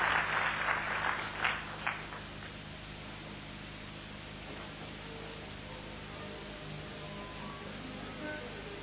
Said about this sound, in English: Let's give Jesus a clap offering. Let's rise together in the presence of God.